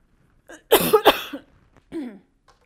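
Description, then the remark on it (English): A loud burst of two or three sharp coughs from a person reading aloud from the Bible, followed by a softer throat clearing, with no talking around them. “Let me clear my throat.”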